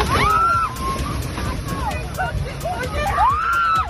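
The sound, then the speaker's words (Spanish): Strong wind gusts in Córdoba, Spain, roar and buffet steadily throughout, with rising and falling whistling tones cutting through the rumble; faint, indistinct voices can be heard beneath the noise. “Fijaos, un viento que hoy soplaba así en Córdoba.”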